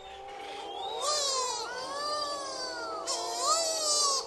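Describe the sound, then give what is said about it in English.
Tens of thousands of mutton birds calling in a colony on Heron Island, near the southern tip of the Great Barrier Reef in Queensland: overlapping wailing, moaning cries that rise and fall in pitch, some almost like a crying baby, in a steady dense chorus with no talking. “It's a few acres of sand and coral, densely forested, and awash in the sound of tens of thousands of mutton birds.”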